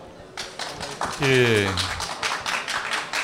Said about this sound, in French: Des applaudissements fournis à Kelakian à cette déclaration. Apparemment, le public venu nous rejoindre ce soir aux grandes tables de la Friche pour cette émission spéciale partage votre point de vue.